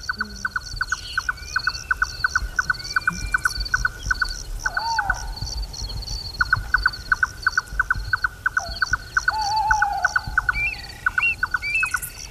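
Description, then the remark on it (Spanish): At night at Coto del Rey, Matas Gordas, in Doñana, a tawny owl hoots a few times against the steady, rapid mechanical churring of a nightjar, with waterbirds calling faintly in the distance and no voices. “Y este mismo lugar por la noche, el Coto del Rey, Matas Gordas, tenemos el cárabo diciendo bu, y este matraqueo de un ave nocturna en chotacabras.”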